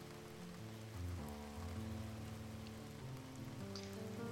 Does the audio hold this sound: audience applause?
no